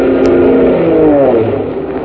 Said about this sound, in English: Hey, listen. A plane. Where is it? My eyes. Everything's a little blurry. Oh, yeah. There it is. Look. A plane. It's coming this way. They see us. It's an army plane.